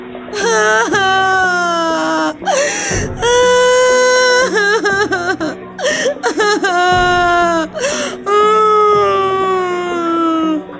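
A girl kneeling on the floor cries loudly in long, wavering, high-pitched wails, broken by short gasping pauses between several sobbing bursts, after her name is not called among the competition winners.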